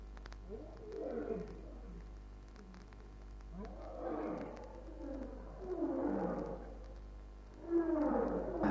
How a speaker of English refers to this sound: Sizzling sausages, listen to that row. What do they think this is, a Valley Symphony concert? They're making more noise than ever. I think they must have smelt us. No. One lion roar, that make others roar. It mean nothing.